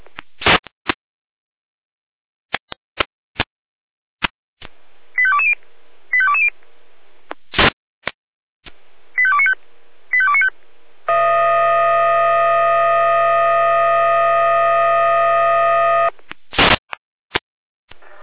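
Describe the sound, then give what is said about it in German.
Jena fire brigade radio alerting tones: crackling clicks and short paired tone sequences, then a loud, steady buzzing tone held for about five seconds, followed by more clicks. No one speaks. “Jena Alarmierung.”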